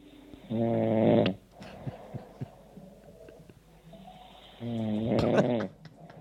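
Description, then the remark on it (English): A person snores loudly while asleep at night, in two long, harmonic inhalation snorts about four seconds apart, with quieter breathing and faint clicks in between; fairly loud, no talking. “That's me snoring.”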